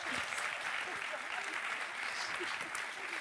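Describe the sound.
Steady, dense applause from a crowd, many hands clapping at once in a continuous loud wash of crackling noise for a few seconds, with faint voices mixed in.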